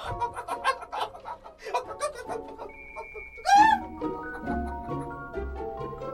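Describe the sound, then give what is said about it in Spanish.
A hen clucks in quick, choppy bursts, then lets out a loud, rising squawk before settling back into softer clucking, with nobody talking. “Voy a tener que matar gallina.”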